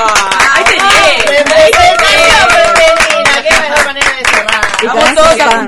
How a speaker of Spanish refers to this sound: Con este aplauso ya nos despedimos